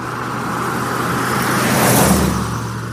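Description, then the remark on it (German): Steady rumble of a car rolling along a country road in bright late-summer sunshine, a broad low engine and tyre hum that swells slightly as it continues, with no voices. “Der Wagen rollt eine Landstraße entlang.”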